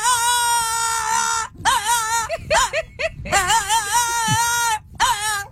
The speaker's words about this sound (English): That's a real dog. I love it. It's the damnedest thing. The dog's just singing at her from the window in the car like...